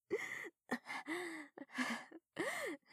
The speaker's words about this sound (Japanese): 息遣いが耳元で聞こえているとやっぱり興奮しちゃう。